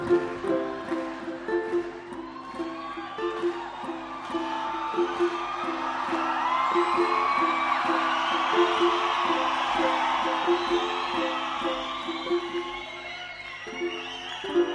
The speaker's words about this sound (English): See, now I can't hear the ukulele at all. Could you clap quietly?